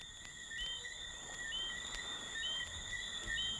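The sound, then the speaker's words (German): Crickets chirp steadily in a dense, continuous high-pitched trill, several insects overlapping, with faint background hiss and no voices, heard at the start of a song recording. “Das Grillenzirpen macht den Song noch fast ein bisschen besser.”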